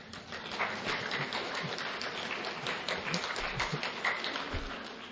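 A crowd gives scattered, half-hearted applause at the end of Ajahn Brar's motivational talk, a steady patter of many uneven claps at moderate volume that carries on throughout without building or swelling.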